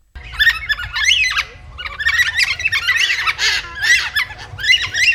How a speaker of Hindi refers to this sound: ये जो आपने आवाज़ें सुनी हैं ये हैं कार्निवाइस के ब्लैक कैकेटू की। ये पक्षी सिर्फ दक्षिण पश्चिमी ऑस्ट्रेलिया में ही पाया जाता है और गंभीर रूप से अपने अस्तित्व के लिए खतरे में आ गया है।